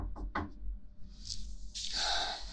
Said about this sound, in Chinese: 等等，有人敲门